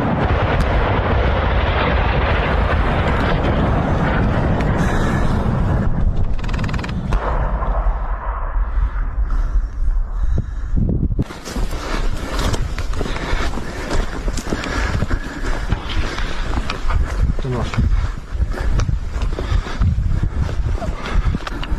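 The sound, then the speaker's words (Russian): Heavy, sustained gunfire crackles without pause, rapid overlapping shots mixed with deep booming blasts and a constant low rumble throughout, loud and dense for the whole stretch. “Ну, то есть там достаточно такой плотный вот огонь мы сейчас слышим.”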